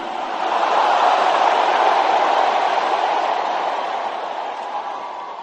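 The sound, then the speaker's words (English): A large audience shouts "glory" together in a loud, sustained roar of many voices, swelling quickly and holding steady for several seconds before easing slightly toward the end. “As many as in the house, let me hear your loudest glory. Shout it as if you are sure you are one of them.”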